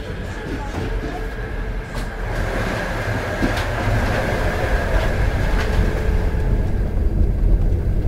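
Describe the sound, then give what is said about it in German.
A train travelling from Siberia to Moscow rolls steadily along the rails, a dense low rumble with a faint high whine and occasional sharper clicks, staying loud and even throughout with no voices. “Der Ausblick aus dem Zugfenster ändert sich auf dem Weg von Sibirien nach Moskau nur unwesentlich.”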